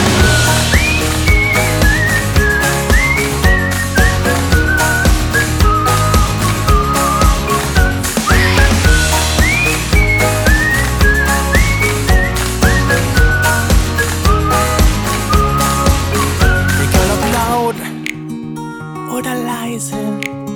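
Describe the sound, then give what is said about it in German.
A bright whistled melody with sliding notes rides over a loud, bouncy pop track with a steady beat; near the end the backing drops to a sparser, quieter section. “Komm, ich dreh laut auf und tanz im Beat, egal ob groß, ob klein, alle pfeifen mit.”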